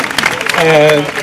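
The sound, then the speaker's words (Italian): An audience at the fourth edition of the Festival of Internazionale in Ferrara, Italy, claps in a dense, steady patter of many hands, while a sustained voice rises over the applause partway through before the clapping carries on. “Questo applauso è per voi.”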